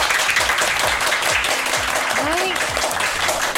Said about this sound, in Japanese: 盛大な拍手で始まりました。今回のラジッチは公開収録になっております。